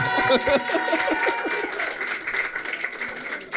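An audience breaks into applause, a dense, steady patter of many hands clapping for a few seconds, with a few voices calling out over it at the start.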